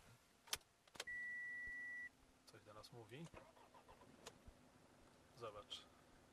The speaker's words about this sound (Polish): Bardzo fajna kultura pracy tego diesla, 2,4, tak? Sprawdzałeś? 180 koni? Tak, 180 koni mechanicznych